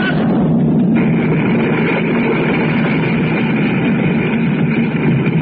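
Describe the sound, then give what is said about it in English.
A loud, continuous roar of ground rumbling from explosions as the ground opens up into a chasm, with a heavy low-end churn, steady for several seconds without distinct blasts or breaks, and no voices. “Listen, boys. Those explosions, they're dying down.”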